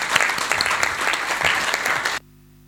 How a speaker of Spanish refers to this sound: Ahora sí, un gran aplauso para los jóvenes.